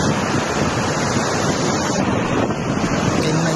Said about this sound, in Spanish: En el barranco de Tirajana, la presa ha empezado a aliviar miles y miles de metros cúbicos de agua.